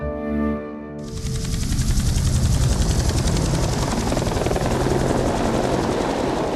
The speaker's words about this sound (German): Mit dem Hubschrauber.